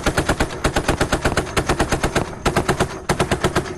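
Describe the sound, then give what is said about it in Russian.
Loud, sustained automatic anti-aircraft fire from an air defense missile brigade in southern Ukraine at night during a drone attack, a rapid steady stream of sharp booming shots at roughly seven or eight per second, with only brief breaks and no voices. “Давайте посмотрим, как в ту ночь работала зенитно-ракетная бригада ПВО на юге Украины.”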